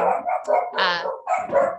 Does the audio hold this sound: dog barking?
yes